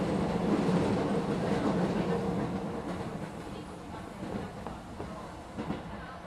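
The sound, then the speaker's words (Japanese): A train rolls steadily along the rails, a continuous, fairly loud low rumble with faint rattling and occasional soft clacks, holding at a constant level throughout. “あ、勝手に乗り換えの電車になるパターンのやつだ。”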